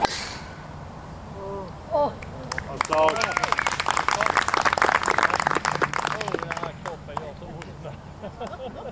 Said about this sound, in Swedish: så går det ett sus genom publiken när han får iväg ett långt slag.